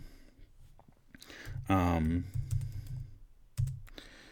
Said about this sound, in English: Typing in a song lyric real quick.